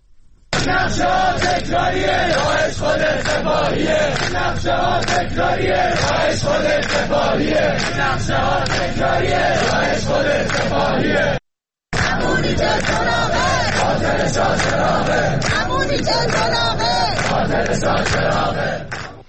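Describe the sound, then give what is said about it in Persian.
A large crowd of protesting university students in Iran shouts slogans in unison, blaming the government and Revolutionary Guards for the Shah Cheragh attack, loud and sustained, voices rising together in rhythmic chants that break off briefly near the middle before resuming with equal force. “دانشجویان در چند شهر از جمله تهران فریاد زدند که حکومت و سپاه پاسداران جمهوری اسلامی را عامل حمله به شاهچراغ می‌دانند.”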